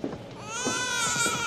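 A baby wails in a single drawn-out, high-pitched cry that swells louder and stays strained, alone with no talking.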